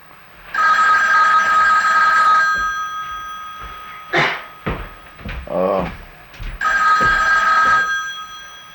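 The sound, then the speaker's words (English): A telephone rings in two long bursts of bright, trilling tones, separated by a few seconds of muffled movement and a brief voice in between, fairly loud. “come get your phone.”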